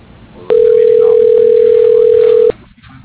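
A single steady electronic phone ring tone sounds for about two seconds, loud and clear over faint line noise, then cuts off abruptly, like a ringback heard while a call is put through.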